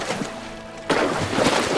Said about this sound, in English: A beaver gives the water a violent slap with its tail.